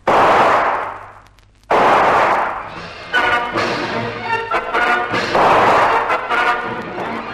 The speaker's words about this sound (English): Von Stahlhein whips his gun out and blazes into the mangroves.